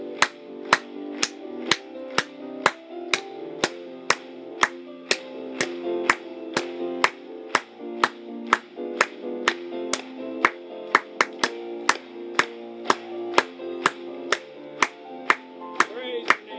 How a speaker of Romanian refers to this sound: Hai să batem de palme pentru El.